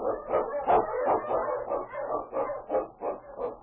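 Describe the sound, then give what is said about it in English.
King, a husky Eskimo sled lead dog, barks excitedly on the trail in the Yukon in a rapid, steady series of yelping barks, fairly loud, with no voices present. “On, King! On, your husky!”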